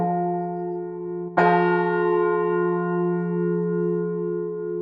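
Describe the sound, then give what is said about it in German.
A single deep 15th-century church bell, ringing since about 1470 every day for the midday peace prayer, strikes once, sharp at first, then hums on in a long, rich, slowly pulsing ring. Already sounding from a previous stroke at the start, with no voices. “Und wenn man die jetzt mal anhört, dann wird man also kaum einen Unterschied zu einer modernen Glocke hören, weil die hat eigentlich alle Aspekte auch einer modernen Glocke.”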